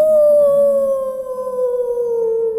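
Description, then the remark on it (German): A person wearing a heavy grey coat and a scratchy scarf imitates a wolf howl in a guessing game, one long sustained tone gliding slowly downward, fairly loud, with no other talking. “Du bist ein Wolf.”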